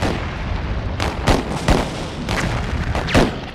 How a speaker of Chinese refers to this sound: 而同时港口对面的邦联炮舰亦做好准备，他们的炮声就是开战的信号，港口周围的其他炮舰会一起投入战斗。